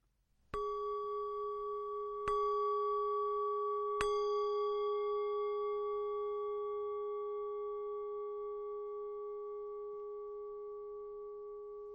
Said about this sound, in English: I will ring three bells to mark the beginning, a bell to mark each stage, and three bells to mark the end of the meditation.